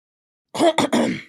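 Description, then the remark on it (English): A quick run of three rough coughs, closer to throat-clearing hacks, bunched together in about a second with no talking around them. “Every time I cough now, I'm just like, so I should go.”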